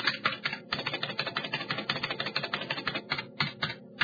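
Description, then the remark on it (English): Rapid, continuous clicking of keys being typed on a computer keyboard, fairly loud, with a few brief pauses between bursts and no voices. “Press the keys.”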